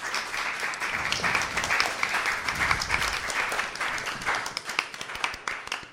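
An audience applauds steadily for several seconds, a dense wash of many hands clapping at a fairly loud, even level that thins slightly toward the end.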